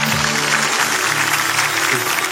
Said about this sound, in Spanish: Gracias. Un fuerte aplauso para Papá Noel.